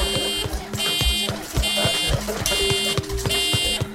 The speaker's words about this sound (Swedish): Ett larm ljuder genom hela akutmottagningen.